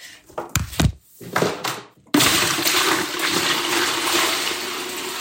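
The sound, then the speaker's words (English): A few hollow clunks and knocks, then a sudden loud, steady rush of water as about 2 gallons of collected rainwater, put into the tank behind the toilet, flush the toilet, continuing to the end without any voices. “It takes about 2 gallons to flush a toilet, and we go ahead and put it into the tank behind the toilet.”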